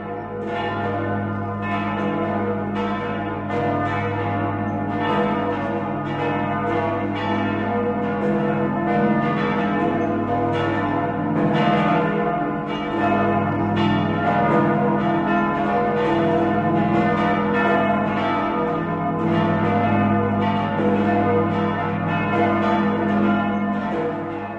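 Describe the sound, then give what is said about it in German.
Church bells of famous Benedictine abbeys peal continuously and loudly, ringing in Christmas, several bells overlapping in a dense, resonant, uneven rhythm with a deep sustained hum beneath, ringing on without pause and with no voices. “Nun läuten die Glocken berühmter Benediktinerabteien die Weihnacht ein.”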